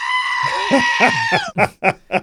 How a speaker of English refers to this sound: The screaming goat sound effect for panickins. That's actually a goat, which is hilarious. We made that sound effect for those people exactly.